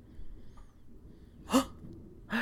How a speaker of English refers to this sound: They probably can't hear it, so we just gasped for no reason.